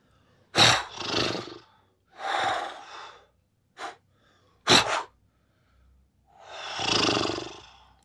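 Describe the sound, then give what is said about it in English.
Puppeteers imitate a horse with loud snorts and breathy blowing: two sharp snorting bursts, a brief puff, several rough exhales, and a long, noisy blow at the end, separated by short silences. No talking. “Let's do some snorty blowy stuff.”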